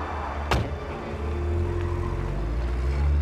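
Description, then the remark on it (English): A white car's engine rumbles after a brief thump, the low motor sound steadily building as the car pulls away. No one speaks. “left with a customer in a white car.”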